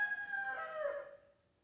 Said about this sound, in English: And he heard that rooster. And thank you, guys. I wasn't sure if they found that sound effect or not. Thank you very much. Can you hear it? You did, didn't you? You say, well, what's so big about the rooster crowing? Why a rooster?